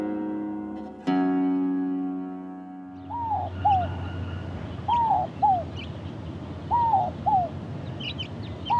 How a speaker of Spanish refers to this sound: Tórtola cola larga, conguita o torcasita, de nombre científico Columbina inca. Pertenece al orden de los columbiformes y a la familia Columbidae. Es una pequeña paloma de 17 a 22 centímetros de largo, con el plumaje aparentando escamas.